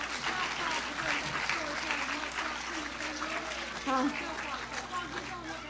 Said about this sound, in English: But North Shore Elementary from Jacksonville is here, and we are real delighted that they are here, and let's welcome them onto the stage right now. Let's clap them on.